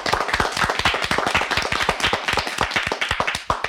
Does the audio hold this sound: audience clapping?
yes